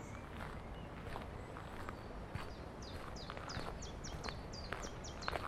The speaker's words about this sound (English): Oh, there's plenty of birdsong as well.